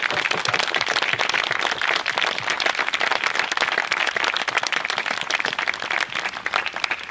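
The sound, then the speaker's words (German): A crowd applauds steadily outdoors at a scouts group's 25th anniversary event, clapping for all the staff and volunteers: a dense wash of many hands clapping at once, loud and sustained for several seconds without any talking. “Bitte einen ganz dicken Applaus für alle Mitarbeitenden.”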